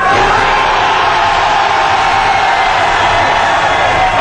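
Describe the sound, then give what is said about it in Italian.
A large crowd roars with sustained shouting and cheering, loud and dense throughout, a continuous wall of voices with no single speaker standing out. “Allora, prima di iniziare io voglio sentire l'urlo della gente giusta.”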